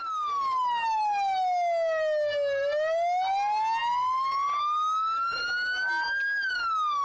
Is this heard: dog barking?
no